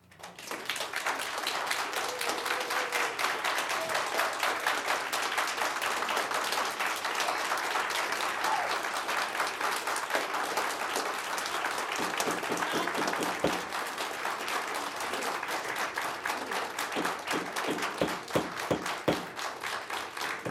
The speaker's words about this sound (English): Everyone could please refrain from the applause or any comments. We'd appreciate that.